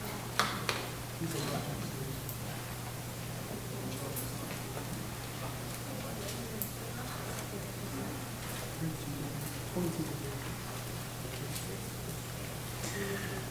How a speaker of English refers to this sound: The rain is nice, and we need the rain, but it's so crazy. It's been so dry, and we planned this so far out in advance, and now it rains like cats and dogs, but here we are.